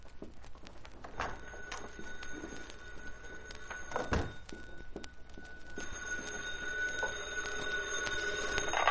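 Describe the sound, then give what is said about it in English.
A telephone rings in another room of an apartment, its steady electronic tone muffled at first and then growing clearer and more insistent, with a couple of dull thumps along the way and no voices. “My phone's ringing. The other room.”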